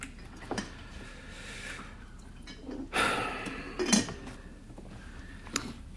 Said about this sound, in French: Pour commencer, versez-moi du café.